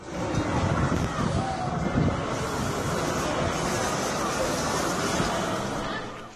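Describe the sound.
A bus set alight burns with huge flames in a street intersection in Braamfontein, a loud, steady roar of rushing noise filling the whole stretch, with indistinct voices mixed into the chaotic din.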